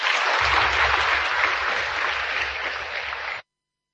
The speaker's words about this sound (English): Let's give all those young Namibians a round of applause.